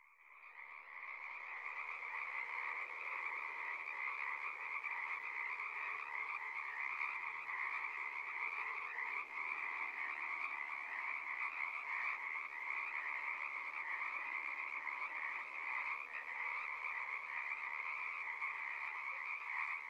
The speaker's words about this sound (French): Bon, eh bien, puisque c'est terminé, je vous laisse en compagnie des grenouilles.